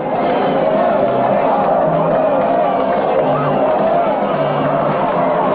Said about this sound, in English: The crowds jump and clap.